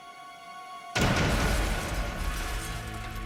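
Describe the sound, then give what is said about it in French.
A steady electrical hum is cut by a sudden, loud explosion of a mailed parcel bomb as it is opened by a professor's assistant at a university in Michigan, its deep roar and rumbling debris spreading out and slowly fading over the next few seconds. “L'explosion blessa gravement l'assistant et fit exploser les tympans de McConnell.”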